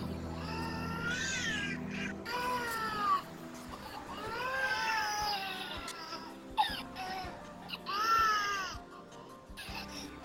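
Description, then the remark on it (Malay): A baby cries in long, wailing bursts, several rising and falling cries in a row with brief gasps between them, loud, with no talking. “Tangisan bayi yang berpanjangan tidak akan menyebabkan kematian, tetapi goncangan yang keterlaluan mungkin akan mengambil nyawa anak-anak.”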